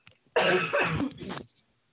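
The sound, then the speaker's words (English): A loud, harsh cough erupts after a brief pause, rasping and breathy for about a second before trailing off into quiet. No one speaks. “Hold on, I'm going to cough real quick.”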